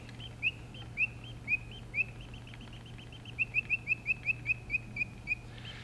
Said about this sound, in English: and on the top you put a pretty little bell, and the one cam pops it open, and the bird pops up and moves around and sings, and the other one operates a little organ.